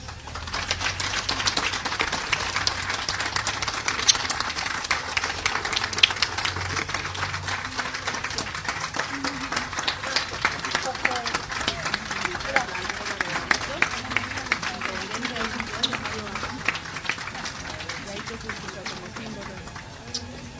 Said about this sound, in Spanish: Gracias mil veces y pido un fuerte aplauso para ese locutor, para esa persona, para ese hermoso ser que era Andrés.